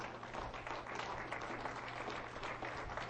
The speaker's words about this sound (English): Now, if you like that, you can give the Lord a clap.